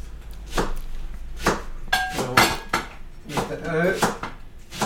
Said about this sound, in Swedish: Jaha, nu hackar han purjolök där borta också. Ja, nu tar vi den stora salladslöken. Purjolöken.